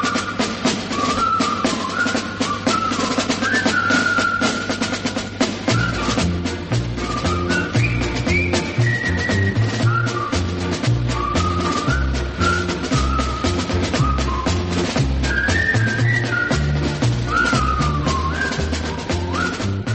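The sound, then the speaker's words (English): A whistled Colonel Bogey March, the theme of the film The Bridge on the River Kwai, carries a bright, bouncy melody, joined after a few seconds by a steady oom-pah band accompaniment with a marching beat, loud and without any talking. “Alec Guinness in the top money-spinning Bridge on the River Kwai, which also breathed new life into the old Colonel Bogey March as a theme.”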